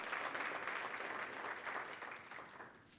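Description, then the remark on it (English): An audience claps steadily to cheer a woman's decision to be baptized, a dense, crackling wash of many hands at an even loudness that tapers slightly toward the end, with no one speaking over it. “We can cheer that.”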